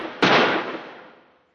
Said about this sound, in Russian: И тут они услышали звуки выстрелов, доносившиеся с луга.